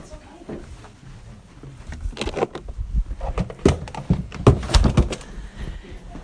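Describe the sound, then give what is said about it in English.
A door is handled and pushed shut, with a series of clattering knocks and thuds over several seconds, ending in a firmer thump; faint voices murmur in the background. “I see you're putting a wrap around you. I'll close this door here.”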